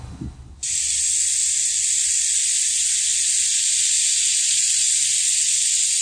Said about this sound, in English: Here's a butter sculpture of a turkey with a hot bladed knife, and it sizzles through and it sounds amazing.